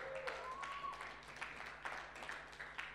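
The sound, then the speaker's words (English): A scattered round of clapping from a small group, fairly quiet, with irregular claps and light murmuring voices underneath. “Give it up for me.”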